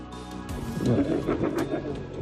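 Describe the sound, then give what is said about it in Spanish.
Low, rough growls and snarls rumble in overlapping bursts as other wolves surround the wolf Dakota, who is eating a piece of meat on the ground, trying to take it from her. No talk over them. “En este momento Dakota tiene un trozo de carne que está comiéndose en el suelo y otros lobos la rodean intentando quitárselo.”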